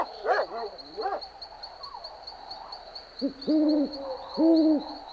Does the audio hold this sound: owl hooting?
yes